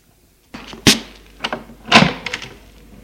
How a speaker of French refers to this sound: Il ouvre la porte.